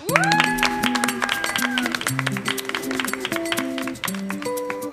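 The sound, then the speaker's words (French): An audience bursts into loud, sustained applause for a guest, dense clapping filling all five seconds, with tonal whoops or music sounding over the top. “Donc, je vous demanderai, s'il vous plaît, un tonnerre d'applaudissements aussi”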